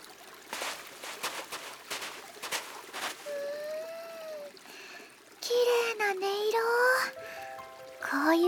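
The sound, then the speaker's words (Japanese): A stream flows with a steady trickling, babbling rush, joined partway through by sustained, wavering whistle-like tones layered over the water. “そこの川へ行ってみようよ。きっと涼しいよ。”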